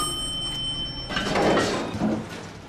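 elevator doors opening

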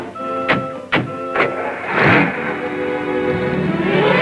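car driving off

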